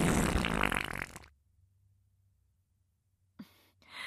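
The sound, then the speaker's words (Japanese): A loud, close-up fart bursts out for about a second with a rough, sputtering texture, followed by near silence and then a brief breathy exhale. “ボリューム満点のゼロ距離オナラ。”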